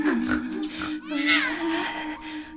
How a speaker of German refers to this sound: Aber jetzt grunzt doch nicht so. Das schickt sich nicht für kleine Jungen. Vorsichtig schaute sie, was ihm wohl fehlte. Es hatte wirklich eine sehr hervorstehende Nase, eher eine Schnauze.